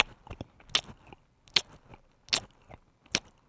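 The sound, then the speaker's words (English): A voice imitates someone chewing popcorn: crunchy mouth sounds in a steady rhythm, with about five distinct bites and soft smacking between them and no talking. “Just the sound of that chewing”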